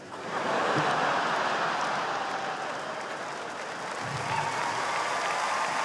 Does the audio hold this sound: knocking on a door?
no